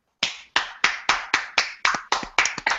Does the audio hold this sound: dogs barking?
no